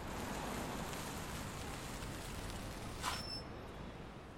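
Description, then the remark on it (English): Steady, soft patter of light rain beginning to fall at the entryway of a luxurious building in New York, a broad gentle hiss with a light rumble in the sky underneath and a brief brighter swell near the end. “There's a light rumble in the sky above as rain begins to trickle down.”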